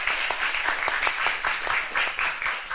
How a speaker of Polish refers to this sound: Wielkie brawa.